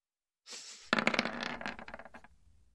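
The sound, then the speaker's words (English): Dice rattle briefly in a hand, then clatter onto a hard table in a quick burst of sharp bouncing clicks that slow and fade as they settle. No voices. “So I rolled an 18 on the dice, got an 8.”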